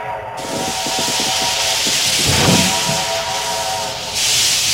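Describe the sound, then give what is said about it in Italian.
A steam train arrives, hissing loudly and steadily, with faint rhythmic chuffing and a low sustained whistle-like tone running under the roar of escaping steam. “Senti, è il treno. Arriva un treno a vapore solo per noi.”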